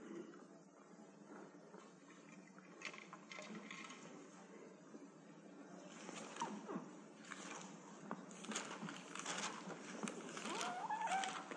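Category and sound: household object, bible pages being turned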